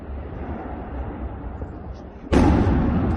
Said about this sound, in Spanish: Fue la primera de las chimeneas construidas en instalación, 70 metros, mediante una voladura controlada. Era derribada ayer a las 4 de la tarde, junto con un edificio anejo a ese denominado Grupo 1, aquel que dio origen a la propia central térmica.